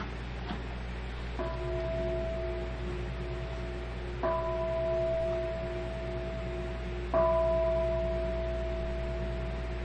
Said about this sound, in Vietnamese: 3 tiếng chuông Hồng Đức.